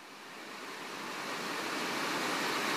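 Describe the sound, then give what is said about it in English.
Heavy rain pours down outside at 10:35 on a Tuesday night in a dense, steady hiss that swells gradually louder over a few seconds, with no voices or other distinct sounds. “I think this is what they call a downpour.”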